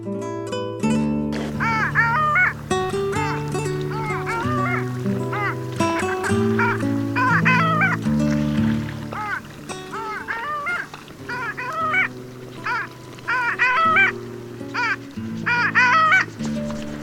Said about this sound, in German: Das war die Eisente.